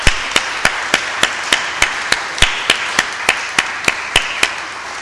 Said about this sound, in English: So I just feel that I want to give a round of applause, really. They're not here, the people that do that, but they're amazing.